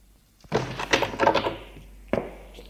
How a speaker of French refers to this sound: Et ferme la porte.